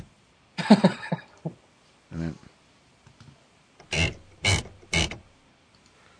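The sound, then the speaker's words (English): A typewriter carriage return: a short ratcheting zip, then three loud, sharp mechanical clunks in quick, even succession, following a brief spoken phrase. “This is the carriage return.”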